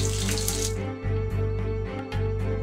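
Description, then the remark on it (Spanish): Water streams steadily into a frying pan holding cracked eggs, to make poached eggs, a continuous splashing pour that briefly dips twice, over a low steady hum and with no voices. “Pero en vez de aceite vegetal, agrega un poco de agua y luego lleva la sartén al fuego.”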